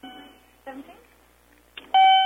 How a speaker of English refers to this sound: What's all that beeping? Beep, beep, beep. Make it quit.